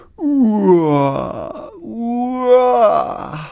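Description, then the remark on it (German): Two drawn-out, voiced yawns in a row from Hermann the dinosaur walking along the Farnhornweg footpath, each a loud groaning exhale whose pitch slides downward before trailing off breathily, with a short pause between them. “Und nun, beim Fußweg, den Farnhornweg entlang, muss Hermann ständig gähnen.”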